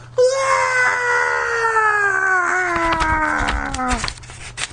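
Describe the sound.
A single long, loud scream of horror slides steadily downward in pitch for about four seconds, raw and wailing, then cuts off. A few crackly bursts of noise sit underneath near the end.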